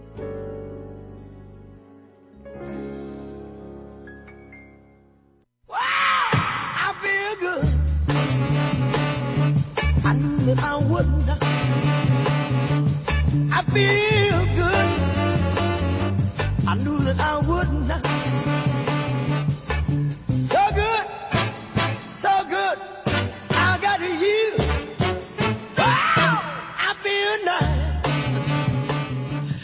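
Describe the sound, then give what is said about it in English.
A song played as a phone ringtone: a quieter, sustained tonal intro for a few seconds, then a loud, dense full-band section bursts in and continues steadily, with no talking. “My ringtone on my phone for a while. I love it. But every time it went off, people would jump.”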